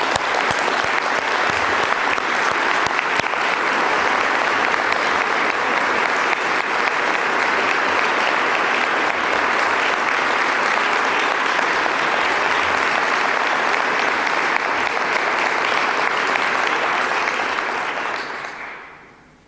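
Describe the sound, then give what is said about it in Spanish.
Sustained audience applause, a dense, loud wash of clapping that holds steady for nearly twenty seconds before fading out quickly at the end. No speech is heard over it. The applause is for everyone who took part in an exchange that included civil society and national and international bodies. “Así que quiero agradecer muy especialmente a todos los que formaron parte de este intercambio y pido un aplauso para todos ustedes.”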